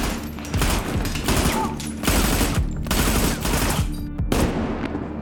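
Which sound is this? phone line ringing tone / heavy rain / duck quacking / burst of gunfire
burst of gunfire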